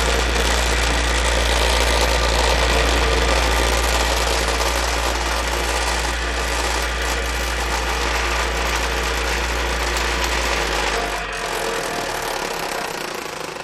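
A vibrating table shaking rectangular molds of poured chocolate to shake out bubbles and spread the chocolate: a loud, steady mechanical buzzing and rattling with a strong low hum underneath, running continuously before dropping off slightly near the end. No one speaks.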